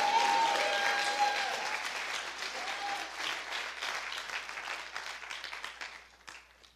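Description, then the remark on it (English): A church audience claps steadily on a Sunday to thank Jesus, in sustained applause that is loud at first and gradually thins and fades toward the end, with a few brief tonal voices or cheers briefly audible early on. “And if you believe that Jesus is victorious, can you clap the hand and say, thank you, Jesus.”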